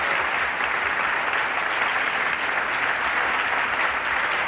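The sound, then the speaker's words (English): A large audience at UCLA applauds itself steadily, a dense, even roar of many hands clapping at once that holds strong and continuous for the full length without a break. “This is bye-bye time, and I would like you all here at UCLA to give yourselves a hand.”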